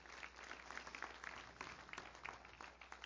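An audience gives a clap offering to Jesus, a dense rattle of many hands with scattered sharper claps standing out, sustained at an even level for a few seconds with no voices.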